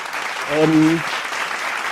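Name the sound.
applause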